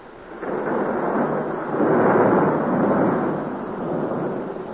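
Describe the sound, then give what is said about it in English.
A long, deep rumble of thunder in a thunder and lightning storm during a church dedication service rolls on for several seconds, swelling in the middle and slowly fading, fairly loud and heard on its own with no talking. “You know, it's the first dedication service I've ever been in with thunder and lightning.”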